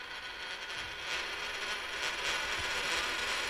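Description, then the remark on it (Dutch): A tossed coin rolls and rattles across a tabletop in a steady, continuous metallic whir, fairly quiet, with no voices during the roll. “Wat rolt hij mooi?”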